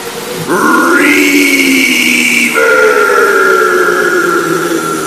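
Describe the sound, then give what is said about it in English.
A heavy reverb effect smears a loud, drawn-out tonal wail that slides upward, then jumps to a new steady pitch midway, the washed-out sound ringing continuously for several seconds. “I'll let you play with the reverb. Listen to all this reverb.”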